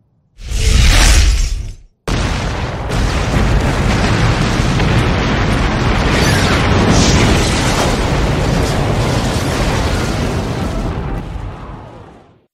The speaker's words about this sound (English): the missile hit the building itself. Luana lost consciousness due to the explosion caused by the impact of the missile